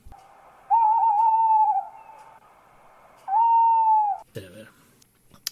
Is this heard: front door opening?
no